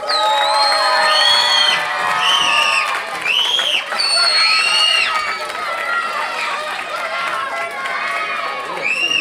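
A crowd cheers and screams loudly, high-pitched shouts and whoops rising and falling over a steady wash of clapping that fills the whole stretch without a break: an audience welcoming a musician who will improvise on readings.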